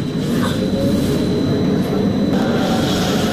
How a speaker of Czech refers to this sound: Ovaj tramvaj na liniji broj 2 ni izgledom ni namenom ne podseća na obično javno prometalo na šinama. Testiraj se na HIV jer je važno da znaš, ispisano je na njegovom spoljašnjem delu.